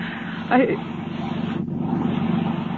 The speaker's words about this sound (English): That's my husband's boat.